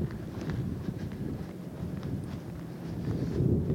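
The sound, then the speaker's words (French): Strong wind on the Dunkirk seafront promenade, facing the grand hotel and closed bistros, buffets the microphone with a continuous low, rough roar, swelling into a louder gust near the end. No voices are heard. “Là, il y a un vent mauvais qui fouette en face du grand hôtel et des bistrots fermés de la digue de Dunkerque.”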